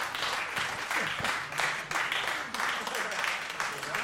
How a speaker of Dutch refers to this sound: En dat was de laatste muziek in deze tweede editie van onze In Jazz op locatie opnames. Nog één keer een applaus voor deze band.